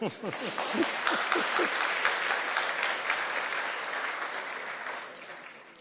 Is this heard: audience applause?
yes